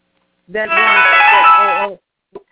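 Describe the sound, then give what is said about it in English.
A mobile phone ringtone plays a bright, buzzy electronic melody for about a second and a half, loud and steady, then cuts off, followed by a brief faint knock. “Could someone push mute on their phone?”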